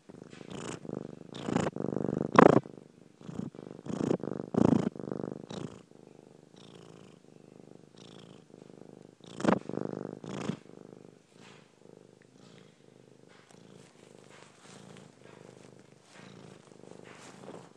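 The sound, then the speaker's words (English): A roughly 15-year-old black and white mixed-breed female cat with short legs and a fat body purrs, a steady rumbling loop of breaths, louder and more rhythmic in the first few seconds before settling into a softer, continuous purr. “She's short legs, quite a fat body, and she purrs like this.”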